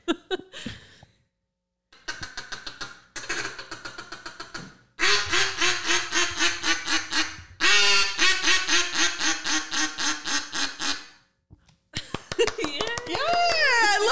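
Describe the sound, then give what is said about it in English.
A duck call is blown: bursts of rapid, rolling feed chuckles give way to a series of loud, nasal quacks, with a short pause between the sections. “And then kind of just roll into a little bit of a quack.”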